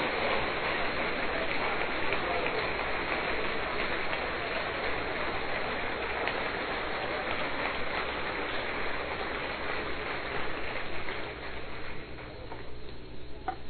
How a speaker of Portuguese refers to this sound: Aplaude o Senhor! Celebre o seu nome!